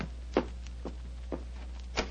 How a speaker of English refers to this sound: I can hear footsteps on the stairs.